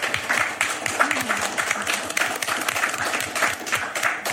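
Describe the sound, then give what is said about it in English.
An audience applauds the panellists at the close of an SRUC panel session, many hands clapping in a dense, crackling patter that holds a fairly even loudness from start to finish, with no clear voices rising above it. “Please join me in a round of applause for all our panellists today.”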